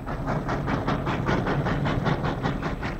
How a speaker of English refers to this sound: Eau Claire, all out for Eau Claire. Chicago, Milwaukee, St. Paul and Pacific Railroad. The train pulls into the station on Barstow Street.